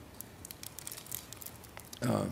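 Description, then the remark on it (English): A cough drop wrapper being unwrapped crinkles in a quick scatter of small, sharp crackles, fairly faint, before a voice starts speaking at the very end. “Could you undo that? That cough drop, please.”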